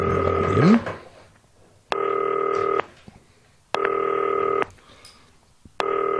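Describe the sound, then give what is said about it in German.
A FaceTime call placed from a green phone to Werder Bremen's Kevin Möwald: a short rising electronic tone, then three steady, buzzy ringing tones, each under a second long, repeating at even intervals with quiet gaps between. No one speaks. “Es klingelt.”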